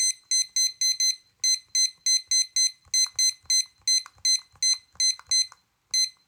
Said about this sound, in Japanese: はい、じゃあタイマー持ってきてるのでタイマーを20分にセットします。